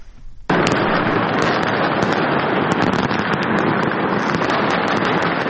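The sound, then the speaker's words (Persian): A dense, continuous barrage of New Year fireworks at Umayyad Square in central Damascus, Syria, at the moment 2025 began; after a brief quiet start, many overlapping crackles and pops blend into a loud, steady roar with no talking. “آتش‌بازی در میدان اموی در مرکز دمشق در لحظه تحویل سال 2025، شادی سوری‌ها در اولین تحویل سال نو پس از سقوط رژیم اسد نمونه‌ای از امیدواری‌هایی بود که مردم سراسر جهان برای سال جدید داشتند.”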